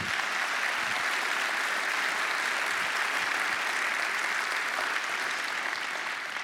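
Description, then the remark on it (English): Steady, sustained applause from an audience, a dense hiss of many hands clapping at an even loudness throughout, with no voices standing out. “Would you all thank these people for that?”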